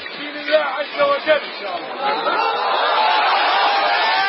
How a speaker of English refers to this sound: And in this video, an ISIS fighter speaks to a large and vocal crowd of supporters in Mosul. The fighter, his face covered, tells the crowd his group will establish a state that will protect the rights of Sunni Muslims.